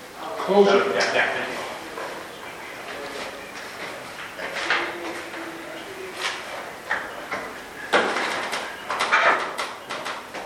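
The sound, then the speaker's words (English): Doors are pulled shut during a meeting, with a few thuds, scrapes and rattles spread over several seconds while indistinct voices murmur in the background. “could you grab the doors there?”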